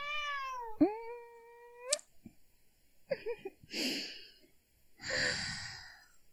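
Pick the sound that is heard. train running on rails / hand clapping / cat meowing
cat meowing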